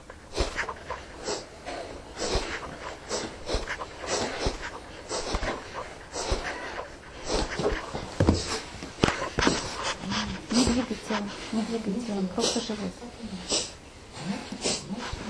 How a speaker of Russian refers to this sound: И вот начинаем дышать носом. Глазки закрыты. Пробуем.